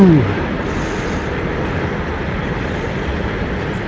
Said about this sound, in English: Sorry, there's a freight train going past. Ah, yes. There goes all the nuclear waste from Germany.